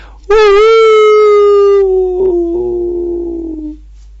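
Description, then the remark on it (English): A single long howl of a jackal at about 7:30 in the evening at Suryakund, India, holds a steady, slightly falling pitch for several seconds, loud and clear with no talking, then cuts off abruptly. “In India you become very regulated, and then it was 7:30, the jackal started to howl.”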